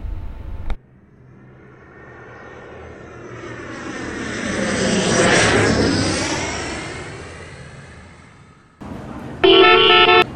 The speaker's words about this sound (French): Wow, une voiture aéroportée avec des portes qui s'ouvrent en l'air.